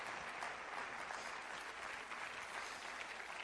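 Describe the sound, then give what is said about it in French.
An audience applauds the blessing of God at the preacher's call, a dense wash of many hands clapping at once, sustained and even throughout without pause or voices rising above it. “Quelqu'un devrait dire amen et applaudir la bénédiction de Dieu dans la maison de Potiphar.”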